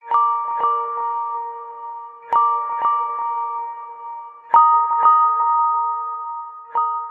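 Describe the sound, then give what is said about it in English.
A Google Pixel phone ringtone played through the phone's small speakers, built from Google's higher-pitched UI sounds: bright, chiming electronic tones in repeating bursts, each a few quick struck notes that ring out and fade, alone with no voices. “The Pixel's small speakers make it perfect for Google's higher-pitched UI sounds, which can be heard in many of its ringtones.”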